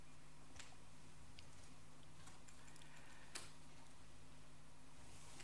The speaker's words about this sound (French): Horloge.